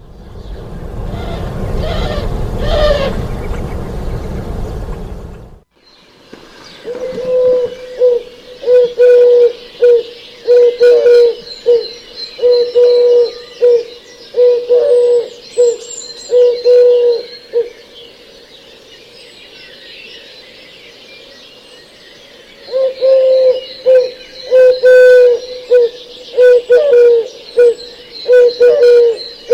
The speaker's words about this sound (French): Par contre, un autre oiseau qui est très très présent chez nous, et en ville et dans les jardins, c'est la tourterelle turque. Pour certains, même, ils la trouvent même agaçante, tant elle est présente et nous abreuve de son chant.